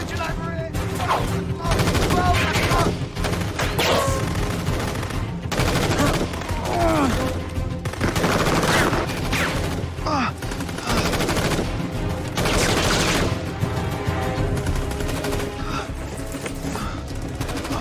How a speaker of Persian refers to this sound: تکتیر انداز کشته شده ولی هنوز دارن به امون شلیک میکنن.